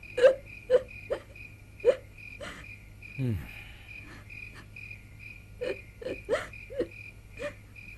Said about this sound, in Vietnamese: vua bỗng nhiên nghe thấy âm thanh người nữ khóc lớn tiếng. Ở trong thâm cung của ta, từ xưa đến nay chưa hề xảy ra chuyện này, sao lại có tiếng khóc ai oán như thế?